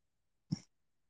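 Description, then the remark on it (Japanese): A cat bumps close against the microphone, giving one brief, loud, muffled thump with a short breathy rustle, then quiet. No one speaks. “やーめてか、にゃんこちゃん。何しとっと。”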